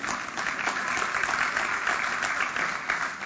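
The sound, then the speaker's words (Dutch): Steady applause from an audience, a dense wash of many hands clapping at an even, moderate loudness for a few seconds with no voices standing out. “Wat applaus.”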